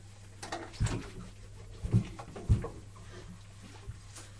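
A drink carbonating machine hums steadily while giving three or four sharp pops at uneven intervals, with a faint fizzing hiss between them, as a bottle is lowered into water to make a fizzy drink. No talking.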